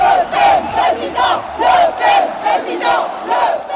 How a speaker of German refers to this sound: Jubel für Jean-Marie Le Pen, Galionsfigur der französischen Rechtsextremen, vor seiner letzten Schlacht.